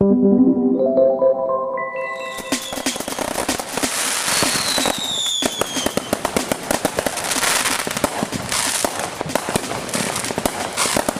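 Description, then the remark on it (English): Fireworks go off: a rising whistle launches, then a loud, dense barrage of crackling pops and bangs continues nonstop, with a few more whistles streaking through. No one speaks. “Expanding sale of more powerful fireworks may have increased revenue, but it lit a short fuse of complaints about excessive noise”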